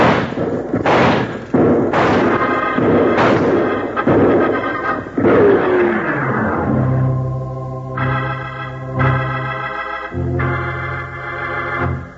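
gunfire

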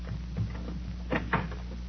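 door being opened

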